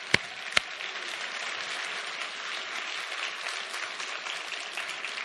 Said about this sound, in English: Hey, can we thank all those people I mentioned, though, just by giving them applause?